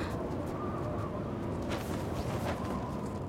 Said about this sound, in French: Oui, c'est la tempête de neige.